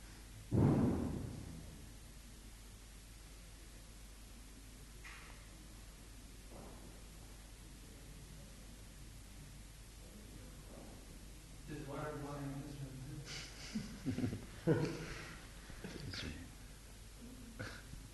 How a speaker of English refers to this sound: Some water was boiling, Srila Prabhupada. Hmm? That was the sound of boiling water.